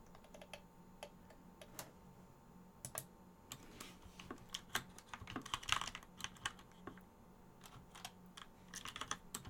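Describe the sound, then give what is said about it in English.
Rapid, irregular keystrokes clatter on a loud computer keyboard, a steady stream of crisp clicks with brief pauses and occasional bursts, over a faint low hum and no voices. “Does that give you some keyboard ASMR right there?”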